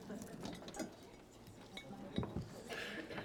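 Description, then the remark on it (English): A ceramic crock pot for cooking brisket is handled, with several light clinks and knocks of crockery and a lid scraping at an uneven pace, faint voices murmuring underneath. “This is for our crock pot.”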